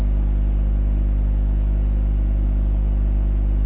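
A concrete compression testing machine runs with a steady, unbroken motor drone, heavy low hum and layered buzzing tones holding constant throughout, with no voices.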